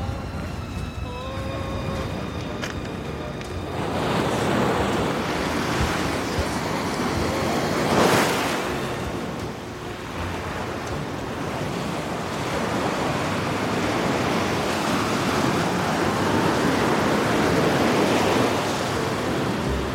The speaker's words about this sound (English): Well, high tide at the moment, so the sea is right up to the seawall. And Aberdeen Beach is split nowadays with these wooden groins that run down and basically hold the sand in place, because otherwise everything would head south for the winter.